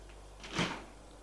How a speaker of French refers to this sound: On frappe à la porte. Entrez.